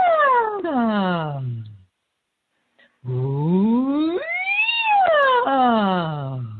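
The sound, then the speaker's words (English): A single voice imitates a siren as an exercise to raise energy, sliding downward, pausing briefly, then sweeping smoothly from low to high and back down again in one long, steady hum. “You ever make a siren sound from low to high and back down again?”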